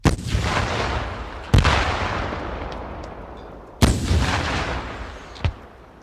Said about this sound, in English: Two men with bazookas climbed up on the roofs of the SUVs and sent shrieking projectiles streaking into the buildings.